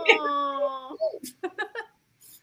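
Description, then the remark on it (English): A dog, Fido, whimpering for attention, lets out one drawn-out, high, steady whine for about a second, followed by a few short murmured syllables of a human voice. “But like, my dog. Hey, Fido. He wants your attention.”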